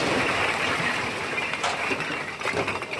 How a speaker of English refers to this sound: The bricks that we've seen here in the field are generally pretty good, but one of the best ways of testing bricks, hear how it kind of makes a metallic clink? That's a good sign. That's the kind of sound that we want to hear in a brick.